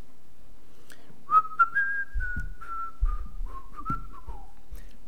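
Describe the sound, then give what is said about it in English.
A person whistles a short, wandering melody, the clear pitched notes gliding and stepping for several seconds, with some low rumbling thuds underneath. “Does anybody have a tune, a whistle in their heart?”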